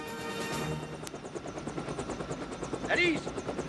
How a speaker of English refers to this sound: The helicopter flies low over them.